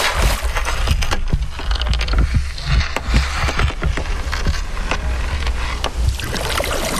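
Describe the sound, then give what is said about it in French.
A large wooden river boat, about 8–9 metres long with two people aboard, moves across shallow water with steady splashing and lapping, scattered knocks and creaks from the hull, and a low rumbling undertone throughout. No one speaks. “On est que deux sur ce grand bateau qui mesure quoi ? 8-9 mètres.”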